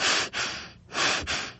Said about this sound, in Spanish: Escucha su respiración.